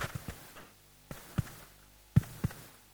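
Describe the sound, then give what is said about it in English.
A quiet heartbeat with soft, low thumps falling in loose lub-dub pairs, a few beats spread across a short stretch with no voices. “One heartbeat away from eternity.”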